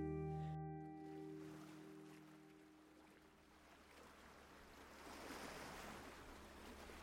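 Waves surge and crash against rock in a steady wash of surf, building to a louder swell near the end, with a faint low mechanical hum fading out early on.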